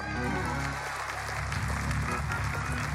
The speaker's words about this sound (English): Here's what's in order. Shouting. Here's what's in order. Clapping.